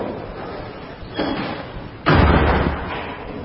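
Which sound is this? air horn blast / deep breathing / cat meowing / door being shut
door being shut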